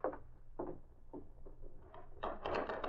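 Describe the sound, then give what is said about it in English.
A door bursts open with a loud wooden bang and clatter near the end, after a few spaced thuds, as a man in a Northwest Mounted Police uniform storms through it with his gun drawn. No talking. “A man wearing the uniform of the Northwest Mounted Police stormed through the door, his gun drawn.”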